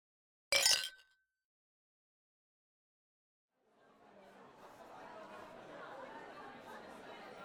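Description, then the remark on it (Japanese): A bright, sharp clink of glasses touching in a toast at a farewell drinking party rings out once, then after a pause a crowd of voices rises into lively, overlapping party chatter that continues to the end. “ってことで、乾杯。”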